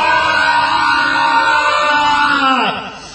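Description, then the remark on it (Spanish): A long, loud sustained stress-relief scream from a few voices together after a count of three, holding steady for nearly three seconds before sliding down in pitch and trailing off. “Podríamos hacer el famoso grito desestresante,”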